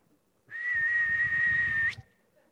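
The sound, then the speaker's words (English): A single loud, steady human whistle, a person's signature whistle known to friends and family, holds one sustained pitch for over a second, then ends with a brief upward flick, with no talking. “Over my life, that's a whistle my friends know and my family knows.”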